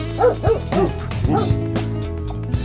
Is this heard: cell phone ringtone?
no